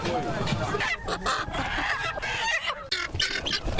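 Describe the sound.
Many broiler and local chickens cluck and squawk continuously in the crowded, noisy Médine poultry market, known as Sougouninkroua, with people's voices chattering and a steady din of activity throughout.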